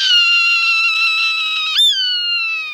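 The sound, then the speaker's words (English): A Swainson's hawk on the western high plains gives one long, loud, raspy scream, drawn out for nearly three seconds with a brief catch near the end before the cry trails slightly downward. No other sounds accompany it. “On the western high plains, a raspy scream.”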